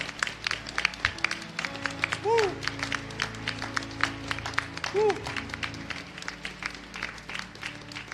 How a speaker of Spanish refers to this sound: Alguien que dé gloria a Dios. Vamos a aplaudir al Señor si puede.